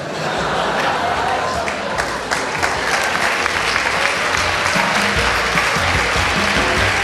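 Sustained audience applause for a young girl in the audience who says she wants to be signed up for football, a steady dense wash of clapping hands that stays loud and even for about seven seconds, with faint crowd murmur mixed in.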